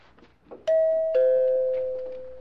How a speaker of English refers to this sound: Jaime, would you just see who's ringing the bell, please? It's 99 who's ringing the bell, Max.